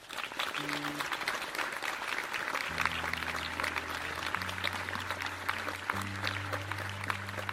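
A crowd applauds steadily, a dense wash of clapping that stays loud throughout, welcoming the next participant, who will tell a very personal story about her mother, while low sustained musical tones swell in underneath partway through.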